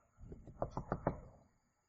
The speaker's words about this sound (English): So you can imagine, that would be the longest wait for a guy that you can imagine. And he's knocking.